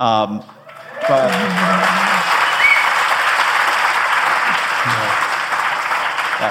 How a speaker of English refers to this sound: Pause for applause.